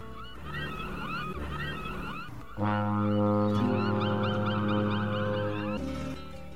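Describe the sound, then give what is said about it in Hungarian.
A large ship's horn sounds one long, loud, deep blast lasting a few seconds as the ship weighs anchor and departs, while birds chirp and twitter steadily in the background before and after. “Ősz partján vesztegelt, horgonyát szedi a nagy hajó. Kürtje felbúg, hangja köddé porlik a dermedt fák alatt.”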